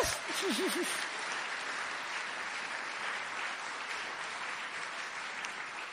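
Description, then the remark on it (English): A crowd applauds steadily for several seconds, a dense, even wash of clapping with no voices above it; a brief warbling tone sounds near the start. “You get a clap for anything these days.”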